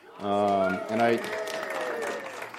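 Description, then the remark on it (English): An audience breaks into steady applause at the announcement of a couple's 22nd wedding anniversary, a dense wash of clapping that builds and holds, with a couple of sustained vocal whoops or cheers rising over it at the start. “I didn't write that in here so I could get that response. Like, hey, everybody clap for me.”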